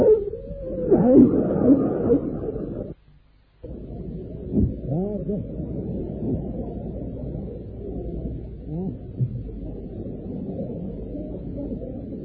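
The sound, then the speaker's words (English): Dolphin-like vocalizations: warbling, rising and falling squeals and chirps repeat throughout over a steady low rumble, broken by a brief silence about three seconds in. “That shows a dolphin.”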